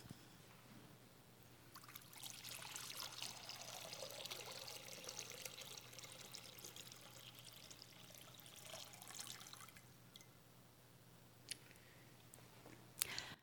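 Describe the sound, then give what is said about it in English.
Water is poured steadily into a baptismal font for about eight seconds, a bright splashing stream that then tapers off, followed by quiet room tone with a few small clicks and knocks. “I'm going to ask you if you will pour the water into the font.”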